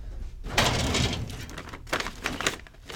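A metal filing drawer holding seed files, including basil seeds, slides open with a rough, rattling rumble, followed by a second shorter scraping slide, fairly loud with no talking, at Foundroot, a small Alaska seed company.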